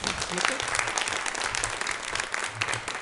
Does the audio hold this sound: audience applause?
yes